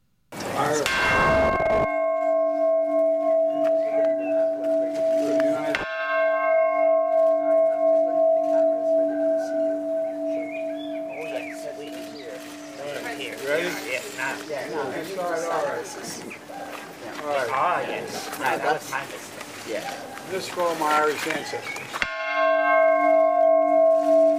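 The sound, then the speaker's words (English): A large bell is rung four times by President Biden at the Irish Prime Minister's residence in Dublin, Ireland, each deep, resonant strike lingering and slowly fading, with crowd murmuring and voices audible in the long pause between rings. “ringing the bell four times for Ireland, for the United States, for his Irish ancestors, and for peace.”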